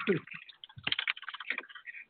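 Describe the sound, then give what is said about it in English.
Forceful typing on a computer keyboard, a rapid, uneven clatter of sharp keystrokes, with a brief muffled voice sound at the start. “Oh, I can hear whoever's typing right now real hard.”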